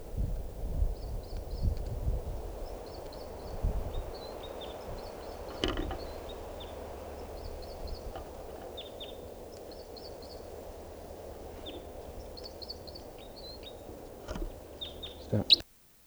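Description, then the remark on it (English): A female bird perched near 387 calls while a male sings, short high-pitched chirps repeating in quick clusters every second or two over steady breezy rustling, with a few soft thumps. “Now, perched near 387, that's her calling, and him singing, and I'm pointed at the female.”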